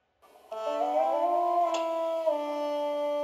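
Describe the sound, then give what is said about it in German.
A synthesized trumpet tone from a music-drawing app, with a bright, buzzy timbre, enters and holds, gliding slightly upward in pitch as a line is drawn upward with a pen, before settling into a steady sustained note, with no talking. “Und wenn du mit dem Stift nach oben malst, dann wird der Ton höher.”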